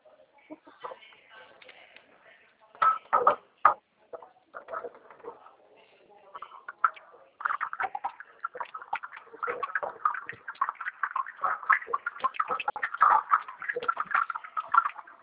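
Running water while someone washes dishes, with dishes clinking and clattering, sharp knocks in the first seconds, then a steady busy stream of splashing and clinks, slightly muffled as if heard over a phone line.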